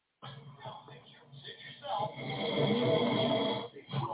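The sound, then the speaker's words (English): Loud, rough snoring: a long rattling breath swells to a peak, then fades into a short snort at the end, with muffled voices faintly underneath. “Do you know anybody who snore like that?”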